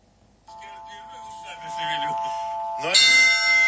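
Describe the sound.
Church bells hung in a small belfry, rung by a bell-ringer, ring with steady, sustained metallic tones, then a louder fresh strike near the end brings a bright burst of shimmering overtones; murmured voices seem to run underneath.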